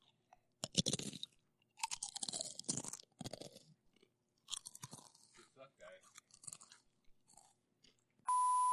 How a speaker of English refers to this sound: The important thing with making a crunch is to kind of open the mouth and inflate the cheeks so that you get a good cave effect, like...